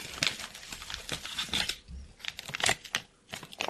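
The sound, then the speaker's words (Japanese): Crisp crinkling of a Starbucks decaf coffee bean bag, bought at a supermarket and without a zipper, being handled and opened, a run of irregular rustles and crackles with brief pauses, no speech. “スタバはあれだな。チャックついてねえから抜けちゃってるかもしれない。”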